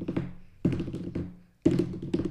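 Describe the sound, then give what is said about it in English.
Low, resonant thudding taps come in a few uneven bursts, fairly loud, each hit ringing briefly, someone drumming on a surface to imitate rapid double bass pedal kick drums meant to sound like machine-gun fire. “does this thing with his double bass pedals, and it's meant to sound like gunfire.”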